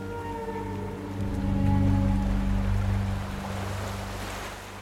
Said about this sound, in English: And so our wave returns to the ocean, carrying with it a partially eaten human arm.